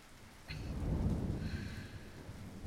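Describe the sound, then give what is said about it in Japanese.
Heavy rain pours steadily while a deep rumble of thunder swells up near the start and rolls on underneath, loud, with no voices. “ものすごい雨です。”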